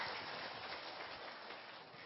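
An audience at an event at Tường Văn monastery claps together to welcome a singer, a steady, dense wash of applause that holds at an even level for about two seconds, with no voices over it.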